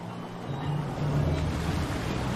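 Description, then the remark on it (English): A jet ski drones over splashing water, its low engine hum growing a little louder as it draws nearer to a boat. No voices are heard. “But he's sitting in his boat and a guy in a white coat, clearly his dentist, jets up on a jet ski with some news.”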